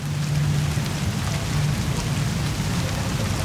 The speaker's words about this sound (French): Quand elle tombe, un joli son en ressort, comme une musique. La pluie.